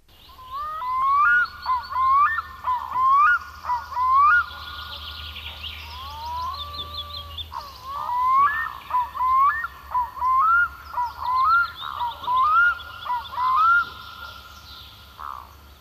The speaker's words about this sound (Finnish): Viikon luontoääni on tällä viikolla kuikka.